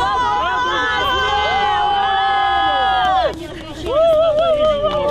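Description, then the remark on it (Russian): A crowd of several dozen activists in Rostov-on-Don cheers loudly after a court decision that a defendant will not go to a penal colony. Many voices hold long, overlapping shouts that break off briefly after about three seconds, then swell again with fresh cries. “Так, несколько десятков активистов, которые приехали в Ростов-на-Дону, чтобы поддержать”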